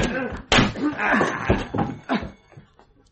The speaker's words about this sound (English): In another city, 20 miles away, another sort of hammering on a different door. All right, break it down. Here we go.